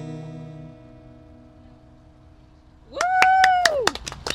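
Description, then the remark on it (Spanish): A sustained tone fades out, then a short burst of about half a dozen sharp hand claps follows. A gliding voice-like whoop rises and falls over the claps. “Aquí es como que me siento más a gusto aplaudiendo que en el estudio, no sé por qué.”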